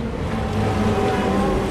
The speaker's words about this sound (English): But Cairo traffic is not for the faint-hearted, especially not for a learner.